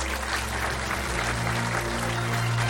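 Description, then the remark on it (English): Steady, dense applause from a large audience at the Commonwealth Club of California for East Palo Alto Mayor Antonio Lopez, sustained at an even level throughout, with many hands clapping at once and no voices standing out. “And before we sign off, let's please give East Palo Alto Mayor Antonio Lopez one more big round of applause.”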